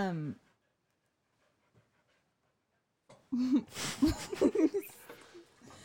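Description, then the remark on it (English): A female dog wandering around the people in the room pants and shuffles after a brief silence, with breathy, uneven huffs and soft movement noises. “Sorry, my dog is wandering around us.”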